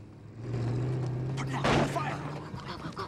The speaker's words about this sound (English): Danny and Kate jump up as two vehicles pull up.